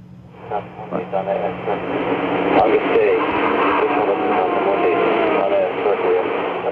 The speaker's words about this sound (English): That's an actual EVP of a spirit screaming. That loud moaning in the background, that scream?